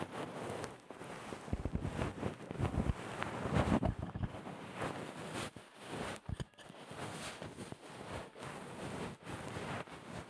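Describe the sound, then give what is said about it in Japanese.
Soft bonten ear-pick fluff brushing and catching on the microphone near the ear, a steady scratchy rustle dotted with sharp little crackling pops throughout, with no talking. “このパチパチって音がマイクのところ、マイクこの近いところ、耳の近くに梵天の毛が引っかかる音なんですよ。”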